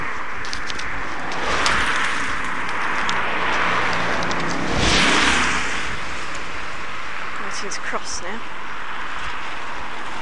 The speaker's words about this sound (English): So it's got more traffic, obviously.